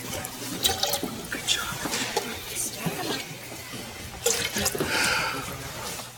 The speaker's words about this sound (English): Just stay with us. Pour the water in.